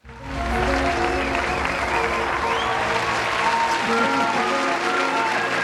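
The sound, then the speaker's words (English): Canned applause plays as a gift for National Weather Person's Day: steady, dense clapping from a large crowd, rising quickly and holding at a loud, even level throughout, with faint cheering mixed in. “It was a very low-key collective woo. Yes. So, and some canned applause.”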